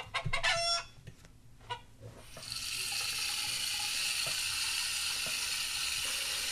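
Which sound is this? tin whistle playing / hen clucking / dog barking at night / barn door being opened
hen clucking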